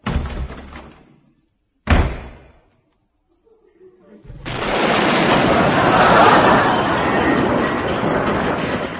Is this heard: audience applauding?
no